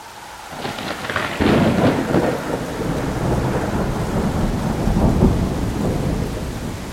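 A thunderstorm rumbles with a deep roll of thunder building after the first second, over steady, heavy rain hissing throughout. No voices, just the sustained wash of the storm.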